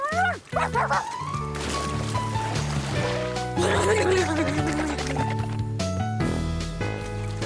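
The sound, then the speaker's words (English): A child's voice imitates a dog with a few short, yelping barks near the start, set against steady background music and a soft watery wash. “And I'm a dog, Clifford! I'm a dog!”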